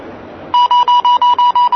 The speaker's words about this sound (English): So we're hearing some beeping. Strawberry jam. This is strawberry jam.